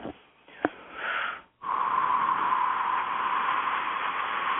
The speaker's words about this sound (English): And when healing comes through, you'll hear me breathing, and that's just what happens. Okay, here we go.